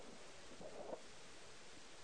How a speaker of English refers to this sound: Is everybody there yet? It's good to hear the pages turning on the Tuesday night. You're keeping your neighbor cool. Just don't rip them out. Just move them quickly.